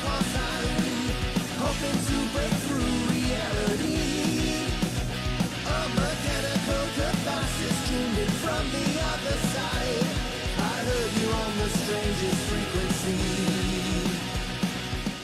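A band's song plays at steady volume, with full-range instruments, a driving rhythm and a dense, continuous mix throughout, no speech over it.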